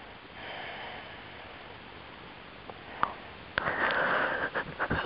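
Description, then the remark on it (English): A breathy yawn by the speaker during a guided breathing and energy exercise: a soft drawn-in breath, a brief pause with small clicks, then a longer, louder airy exhale with faint mouth noises, and no talking. “Okay, something released there because I yawned.”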